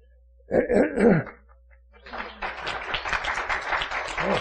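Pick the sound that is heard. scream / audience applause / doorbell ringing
audience applause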